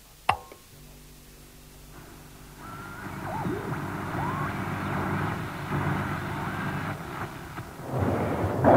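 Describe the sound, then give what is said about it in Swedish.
A single sharp blast of an artillery shell exploding cracks out at the start, followed by a long, rolling low rumble that swells and grows louder toward the end, recorded during a radio war reportage from the front in wartime Finland. “I reportage efter reportage gav han prov på sin konstnärliga ådra, samtidigt som han visade upp ett lugn som idag kan framstå som helt surrealistiskt när man hör ackompanjemanget av granatkrevaderna.”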